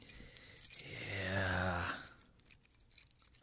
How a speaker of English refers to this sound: Hey, these keys that are different. Remember years ago, keys were always metal, and you wanted a key made, you went and a guy made it. Then all of a sudden, they added all this plastic junk to it